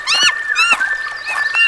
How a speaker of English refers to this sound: Listen to the birds.